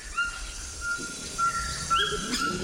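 A Cuvier's toucan in the Amazon gives a series of short, yelping calls, repeated several times over a steady background hum of insects, with no one speaking.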